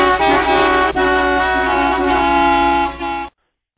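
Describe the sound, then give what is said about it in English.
Several car horns blare together in one loud, sustained, steady honk that lasts about three seconds and then cuts off abruptly. No one speaks. “And don't forget to honk for impeachment.”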